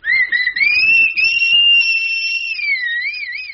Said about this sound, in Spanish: Es que se me hace chocante soplar en las orejas sin ningún ritmo musical. Si no oye, le han de fastidiar los chiflidos sin matizarlos melódicamente. Pero ni modo, hay que seguir las indicaciones del doctor.